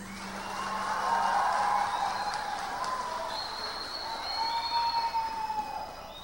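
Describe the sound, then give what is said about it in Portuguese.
Steady audience applause fills the whole stretch, a dense wash of clapping with whistles and cheers rising over it, swelling slightly toward the end. “Uma salva de palmas, não para mim, para vocês.”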